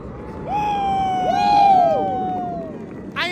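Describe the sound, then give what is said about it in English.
A steady, loud roar of four Thunderbirds military jets flying overhead at the Daytona 500, with a crowd cheering and whooping, voices rising in excited cries that swell and fade over a few seconds. “Four Thunderbirds just went flying over right over our heads.”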